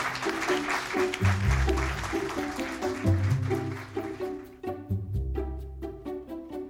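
An audience applauds with dense, steady clapping while upbeat music plays underneath; the clapping thins out after a few seconds and the music carries on with punchy beats.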